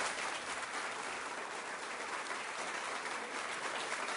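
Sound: audience applause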